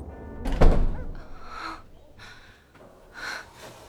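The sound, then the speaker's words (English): A shop door is pushed open at 8 o'clock at the staff entrance on the Rue Neuve-Saint-Augustin as someone enters the shop, one solid thump, followed by a few soft, breathy rustling sounds fading in and out. “Denise pushed the door open and entered the shop.”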